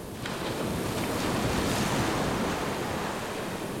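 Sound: running water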